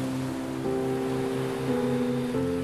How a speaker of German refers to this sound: reitest du mit Keiko eine Welle nach der anderen